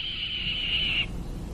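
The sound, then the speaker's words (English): A single raspy, drawn-out red-tailed hawk scream lasts about a second, then stops abruptly, leaving a quiet low rumble of background noise. No one speaks. “That's the sound of a red-tailed hawk, often substituted for lots of birds of prey in movies and other programs and such.”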